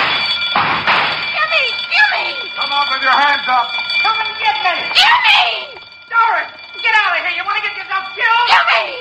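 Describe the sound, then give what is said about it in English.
A burglar alarm rings nonstop in a steady, piercing high tone, loud and unbroken from start to finish while people talk and shout excitedly over it. “trying to be heard over the burglar alarm.”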